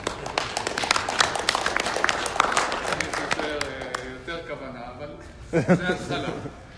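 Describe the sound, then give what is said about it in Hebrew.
A group claps hands together in a quick, irregular burst of sharp claps lasting a few seconds, then the clapping thins out as voices take over. “אפשר אפילו, ככה הוא כותב, אפילו אם אתה בחוץ לארץ, אם אתה מוחא כפיים זה מביא אוויר של ארץ ישראל. בוא נבדוק אם זה עובד.”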